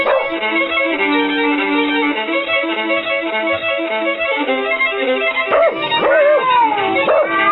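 A dog whines in drawn-out, high-pitched tones, then breaks into several sharp yips and barks near the end, loud, with no one talking.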